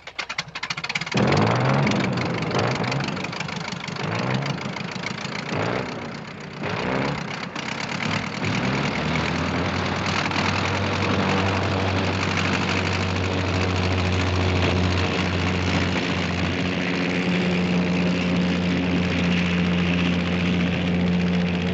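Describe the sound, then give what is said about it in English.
The engine of an old World War I Sopwith Camel propeller biplane coughs and sputters to life, then settles into a loud, steady droning roar that holds constant, with no voices. “Here's the World War I flying ace climbing into the cockpit of his Sopwith Camel.”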